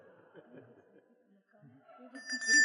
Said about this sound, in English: Each of the speakers tonight will get an amount of time, 5 to 10 minutes, to make a statement about the theme. And if they start to run over, I will ring this little bell.